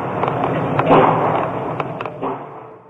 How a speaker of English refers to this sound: Then he walked across campus and began killing people in an engineering building. The sound of gunfire was caught on a student's cell phone.